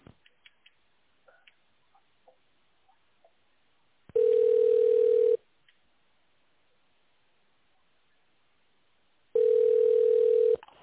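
A telephone ringback tone while on hold after calling the company Helena Rus: two steady, mid-pitched electronic tones about a second long, separated by a four-second silence, preceded by a few faint clicks on the line. No one speaks.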